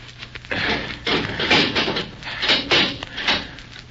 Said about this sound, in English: Here, hold him while I unlock the door